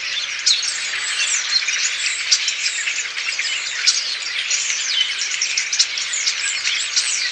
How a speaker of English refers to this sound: these avian acrobats gather into huge flocks and wheel about the sky in wispy displays before dropping like stones into the reed beds and woods where they spend the night. There can be a million or more birds in some of these giant murmurations.